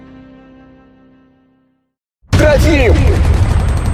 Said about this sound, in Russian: Сквозь грохот разрывающихся снарядов и свист пуль за окном мать кричала белобрысому пацаненку: «Сынок, дай мне одеялко!»